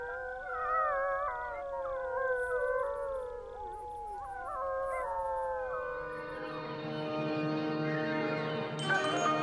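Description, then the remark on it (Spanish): Several wolves howl together in long, wavering, overlapping tones that rise and fall, forming a sustained chorus that grows fuller toward the end, with no talking; the howls were provided by Carlos de Ita. “que se escuche alta y fuerte, como los aullidos que nos ha cedido Carlos de Ita, una de las personas que más sabe sobre la pérdida de los sonidos en la naturaleza.”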